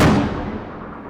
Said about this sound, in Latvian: Vēl nav pagājušas 24 stundas kopš iepriekšējā uzbrukuma Harkivē, kad pilsētas centrā skan jau jauni sprādzieni.